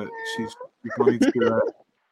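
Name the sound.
cat meowing in background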